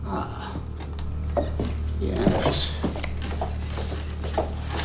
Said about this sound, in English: Marva opens the door to a large, dark cellar.